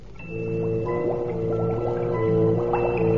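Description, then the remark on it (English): A steady, low humming drone with scattered bubbly pops and gurgles rising over it as a rock cauldron boils in a cave, constantly stirred. Continuous and fairly loud, with no voices. “That rock cauldron, boiling, bubbling, constantly stirred by those ape-like men.”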